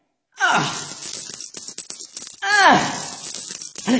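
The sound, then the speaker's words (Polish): Coins are thrown out and land in a scatter of short clinks and rattles, framed by a couple of breathy vocal sighs or gasps at the start and middle. “Teraz wyrzucam monety.”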